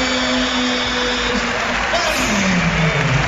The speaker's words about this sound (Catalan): 85-70, se'n va cap a la banqueta, escolteu l'Olímpic aplaudint Andrés Ferit.